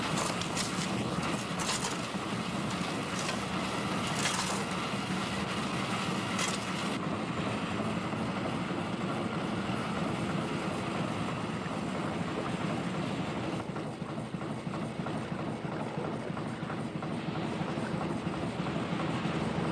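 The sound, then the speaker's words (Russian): A fast police motor launch on the Thames, running at full speed ahead, its engine roaring steadily, a dense continuous drone mixed with rushing water, holding at a constant loudness throughout with no voices. “быстроходный катер на Темс? Катеров быстрее этого, пожалуй, найдется немного.”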